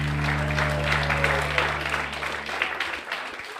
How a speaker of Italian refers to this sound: Applausi. Applausi, ecco, questa era la scheda dedicata a Virginie Efira, che sarà premiata venerdì 7 agosto in piazza.